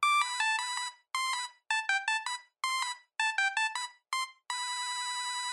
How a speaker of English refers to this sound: And these were basic monophonic ringtones, simple bleeps and bloops, like this.